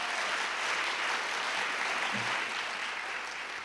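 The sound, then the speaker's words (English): Steady applause from an audience welcoming a speaker to an evening talk, a dense, even patter of many hands clapping that holds at a constant level for several seconds without voices or cheers. “Please join me in welcoming”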